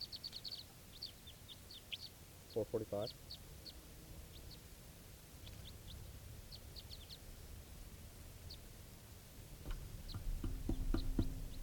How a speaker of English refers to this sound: There's wild birds coming.